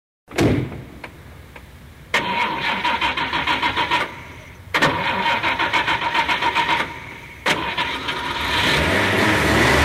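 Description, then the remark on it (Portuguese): A limousine waiting for couples has its engine cranked in three rhythmic, stuttering bursts after a short thump, the final attempt catching and rising into a steady, loud running rumble. No one speaks. “Os casais podem sair por aquela porta que vai ter uma limusine esperando vocês.”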